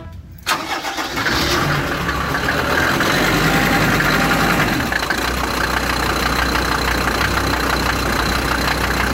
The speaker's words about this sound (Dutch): Nou, weet jij welke auto er zojuist is gestart in de showroom bij Cor Middelaar?